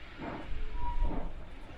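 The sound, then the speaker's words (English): A heavy train engine labors uphill with a deep, rumbling drone and a hissing wash of noise, its low groan swelling and easing as it strains to get the train moving up the hill, its wheels not yet slipping. “I think this engine's battling to get us even going up here.”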